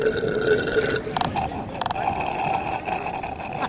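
A slushy margarita machine at the beachside Pacifica Taco Bell churns with a steady mechanical hum, overlaid by wet, gurgling slurps and a few brief sputtering bursts, fairly loud and continuous throughout, with no talking.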